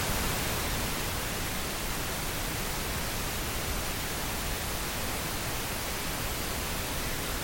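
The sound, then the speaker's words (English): Steady, unbroken pink noise fills the whole stretch, a soft even hiss with a fuller low end than white noise, constant in level with no voices or changes. “And this is pink noise.”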